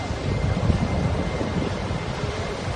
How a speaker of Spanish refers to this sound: Ante la imposibilidad de los buques de salvamento de alcanzar la embarcación, el helicóptero ha tratado de llevar los cabos desde el Blue Star a los remolcadores